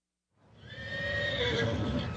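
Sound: horse whinnying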